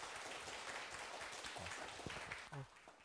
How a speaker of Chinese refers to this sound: 好，我们再一次的掌声鼓励啊！